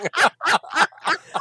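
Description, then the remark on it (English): A voice imitates the shrieking hoot of an owl struck by a magical blast fired into dark trees: five quick, loud, strained vocal bursts in a steady rhythm, with no other sounds around them. “Straightens up and he fires an Eldritch Blast out into the into darkness. The trees. And you hear a Wilhelm hoot.”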